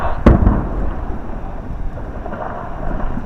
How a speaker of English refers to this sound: Last week, the subcontractor Rock Supremacy started drilling into larger rocks, placing charges inside and detonating them in order to break apart large rocks that need to be sent down the slide area.